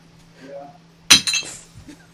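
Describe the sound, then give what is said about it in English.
A bunch of glass bottles are struck together in a sharp, bright clank followed by a shorter rattling clink as they are thrown at the floor, loud, with a brief murmured voice just before and quiet afterward. “I was hoping this would ring more, because it's a bunch of glass bottles.”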